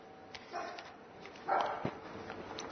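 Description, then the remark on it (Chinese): A dog gives a couple of short barks a moment apart, fairly soft, over light background noise with no one talking. “隻狗都同意啦，隻狗都同意。”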